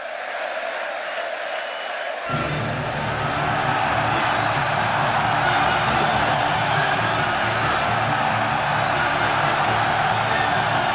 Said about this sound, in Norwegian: og bare høyre på publikum her.